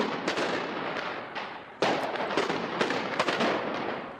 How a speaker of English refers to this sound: Soldiers fired tear gas and rubber bullets to disperse the crowds, and snipers used live ammunition to prevent a breach of the border fence.